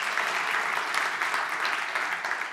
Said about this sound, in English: So turn around and tell and give those guys an applause back there. Great, great work.